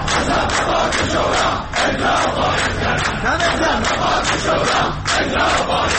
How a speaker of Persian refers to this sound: بازنشستگان در خیابان‌های شهر بر عزای سفره‌های خالی نشستند و برای احقاق مطالباتشان مصوبات شورای عالی کار را فریاد می‌زنند.